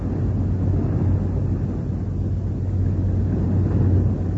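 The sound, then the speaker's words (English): A steady, low rushing roar of water rushing around an elevator shaft, dense and unbroken throughout, with a deep rumbling hum underneath and no voices. “Water. Water rushing around the elevator shaft.”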